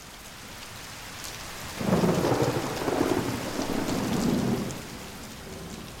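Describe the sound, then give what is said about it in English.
Steady rain patters throughout in central London right before nightfall, while a low rumble of thunder swells up about two seconds in, rolls for a few seconds, then fades back under the rain. “Central London, right before nightfall. The smell of petrol, rain, and chip fat.”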